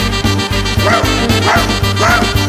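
A dog barks about three times at a steady pace, loud, over a thumping, rhythmic low beat that runs through the whole moment.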